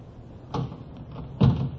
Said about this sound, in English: Well, try the door. Hmm? Oh, yeah. It's open.